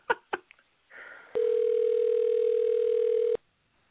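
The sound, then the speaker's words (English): A few sharp clicks and a brief rustle as a phone call is placed during the Matthew Aaron Show, then a steady, unbroken telephone dial tone hums at a low, even pitch for about two seconds before cutting off abruptly. “Yeah, why don't we call Charles? Call Chuck.”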